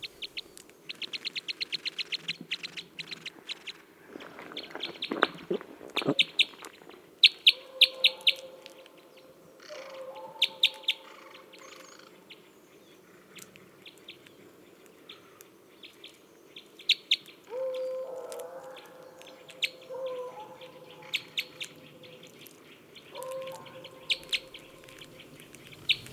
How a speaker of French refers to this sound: Et toujours les becs croisés dans le mélèze.